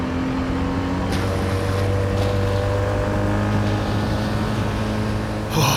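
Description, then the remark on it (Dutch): A small rubber motorboat's engine drones steadily and loudly with a low, even hum, broken by a few brief knocks and scrapes as the boat pushes between ice floes. No one speaks. “Zo, geef me je hand, dan help ik je aan boord van dit kleine rubberbootje. Kom, ja, heel goed. Hou je goed vast, hè? Oké, daar gaan we.”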